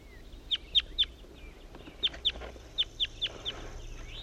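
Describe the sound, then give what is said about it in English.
A wild male bird sings a series of about nine sharp, high notes in short bursts with brief pauses between, clear over a quiet background, with no one talking. “wild male bird that was just singing.”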